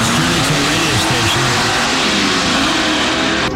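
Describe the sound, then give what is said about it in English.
A car engine drones loudly, its pitch rising and dipping as the car turns the corner off Carmichael Road onto the I-85 Parkway, with a steady broad roar of road noise throughout. “As she turns the corner off Carmichael Road on the I-85 Parkway, getting ready to pull into the radio station.”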